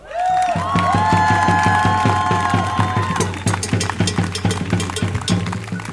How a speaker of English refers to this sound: And the third thing is I want to have a big, big, big applause for all the people who made this day possible.